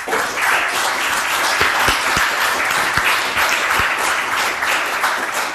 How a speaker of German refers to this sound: Hier haben wir einen fetten Applaus.